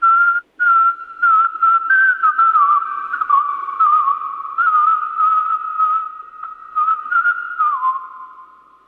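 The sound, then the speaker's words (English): Someone whistles a bouncy pop tune, a single clear pitched line wavering through a melody with brief breaths between phrases, loud and steady for several seconds with no talking. “You sing it, and I'll whistle along.”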